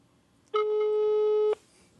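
A phone's ringing tone sounds once through a speakerphone: a steady, fairly loud one-second beep that stops abruptly, with faint background hiss and no talking.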